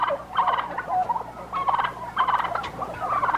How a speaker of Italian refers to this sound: Che ha scoperto che i tacchini, a cantargli una ballata, rispondevano a tono. e sono 300 cattivi tacchini di un allevamento.